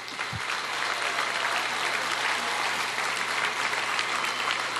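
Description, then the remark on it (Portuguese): A crowd applauds the workers of Hemobras, dense crackling claps forming a continuous, fairly loud wash of sound with no voices on top, holding even throughout. “eu quero dar uma salva de palmas a todos os trabalhadores e trabalhadoras da Hemobras.”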